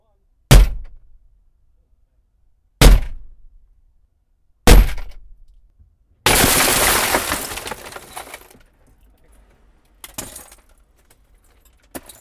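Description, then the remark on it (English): A car being smashed, recorded by a recorder left inside the car: three heavy, evenly spaced blows, then a loud burst of shattering glass that trails off into tinkling debris, followed by two lighter knocks. “All right, well, let's get some smashing, shall we?”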